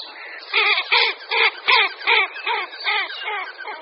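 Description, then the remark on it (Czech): Female common goldeneyes flying over give a steady series of about eight harsh, grating calls in a quick even rhythm, with a faint continuous whistle of wingbeats running underneath. “Slyšíme jak typický svistot letek, tak i chrčivé hlasy samic.”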